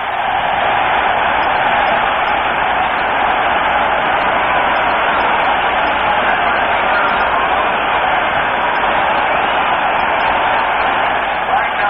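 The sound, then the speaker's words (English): A large stadium crowd at a Lions football game applauds steadily as player Tobin Roach leaves the playing field, a dense, loud wash of clapping and crowd murmur that holds without a break for the whole stretch, with no one speaking over it. “Tobin Roach doing a great job for the Lions here this afternoon, and he gets a well-deserved round of applause as he leaves the playing field.”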